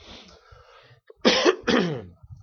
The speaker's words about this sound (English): I want to apologize now for the coughing and hacking and all of that I'm doing. I forgot my cough medicine this morning.